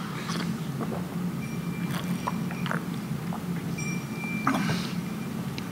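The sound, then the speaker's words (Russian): Someone drinks water from a glass: a series of soft gulps and wet mouth clicks with short sips, set over a steady low background hum, with no talking. “Что с ней произошло? Выпили ее.”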